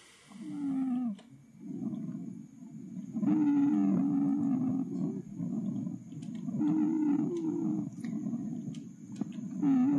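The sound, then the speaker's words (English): Wheezing lung sounds from narrowed airways: musical, whistling tones that rise and fall in long overlapping waves, recurring with each breath through a continuous low rumble. “sounds like lungs of a patient with asthma or otherwise narrowed small airways”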